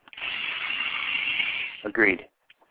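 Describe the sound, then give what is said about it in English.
A power drill whirs steadily for nearly two seconds while drilling on a door to take the doorknob off, then its pitch jumps and rises briefly before it cuts off, leaving near silence. “I have to do a little drilling on this door, so I have to take the doorknob off.”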